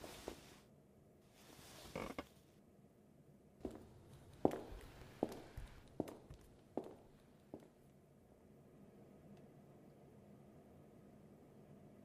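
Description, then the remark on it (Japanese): Footsteps walk at a steady, unhurried pace, about seven or eight distinct steps at moderate volume, followed by a faint, quiet background hiss as they stop. No one speaks. “移動しましょうか。ほら、ポカンとしていないで、ついてきてください。”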